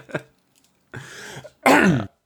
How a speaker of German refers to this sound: Ja, irgendwann wirst du bei uns gar nicht so verstehen von lauter Husterei und Räusperei.